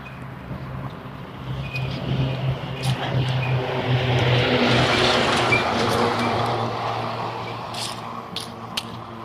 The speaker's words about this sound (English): garbage truck. Don't usually see garbage trucks on Saturday.